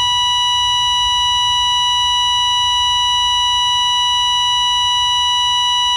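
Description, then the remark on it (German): A single steady electronic tone played from a cassette tape holds unbroken for the whole six seconds, a flat drawn-out beep with bright harmonics over a faint low rumble, with no voices. “Dann ein einzelner Ton. Langgezogen. Wie ein Herzschlag.”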